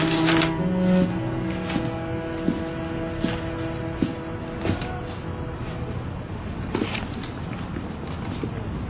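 Steady mechanical tapping of typing keys, a regular run of sharp clicks at a moderate pace, fairly clear over a low background hum, with no talking.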